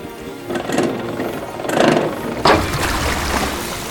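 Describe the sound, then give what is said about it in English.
A valve is turned and a water pump starts, chugging steadily with a mechanical whir and watery rushing, surging louder in a few bursts as it gets going, pumping water out of a city center into canals through copper pipes. Fairly loud, with no voices. “I see, it's for pumping water.”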